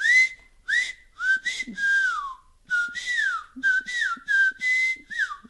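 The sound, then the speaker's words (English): A person whistles a series of sliding, pitch-bending notes in quick bursts, imitating a whistled language. The whistles are loud, with short gaps between phrases and no talking. “it's a whistling based language”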